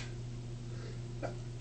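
A quick, muffled sneeze bursts out near the end in a studio, preceded by a faint breathy intake, over a steady low electrical hum.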